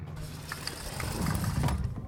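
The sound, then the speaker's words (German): A door of a wooden hut being opened: a few soft mechanical clicks and rattles from the latch, followed by a low, grinding creak that swells toward the end. No one speaks. “Ich mache die Türe auf.”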